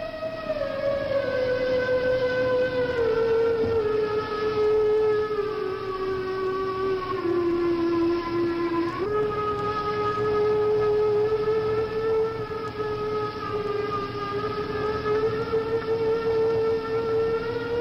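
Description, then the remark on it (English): A loud factory steam whistle in Pittsburgh, Pennsylvania, played by a factory worker at Christmas time, sounds continuously, its strong, reedy tone sliding and stepping between pitches as it plays slow, drawn-out carols heard across the valley for miles, with no pauses or voices. “Pittsburgh, Pennsylvania, at Christmas time, an imaginative factory worker filled the valley from miles around with carols played on the factory whistle.”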